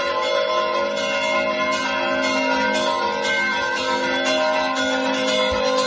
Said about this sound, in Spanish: Mira, escucha, así toca las campanas Antonio en la iglesia de San Juan en Zamora.